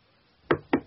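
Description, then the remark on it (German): A woman knocks twice, firmly, on a door, the knocks evenly spaced, with a short quiet pause before them and no voices. “Sie klopft an die Tür.”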